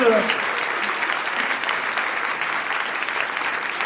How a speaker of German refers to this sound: einen Applaus! Kommt in unsere Mitte.